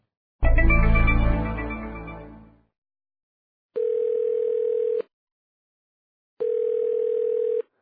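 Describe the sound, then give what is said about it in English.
A short resonant clatter fades out, then two long, steady electronic ringback tones of a phone call from Rotterdam to a shipping company office in Boston sound about a second apart, each lasting over a second, with no voices. “First, the receptionist in Benny's office picks up the phone.”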